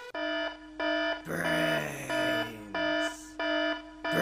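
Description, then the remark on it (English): An alarm sound effect blares in loud, steady on-off pulses of a harsh buzzing tone, broken up midway by a short, chaotic, noisier burst before the beeping resumes. “Seconds to come up with a tiny brains alarm.”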